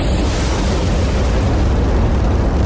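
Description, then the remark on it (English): A loud, deep thunder rumble from a lightning strike rolls on steadily for the whole few seconds, heavy in the low end with a hissing crackle above and no voices. “And that's why when lightning hits things, it can cause so much damage.”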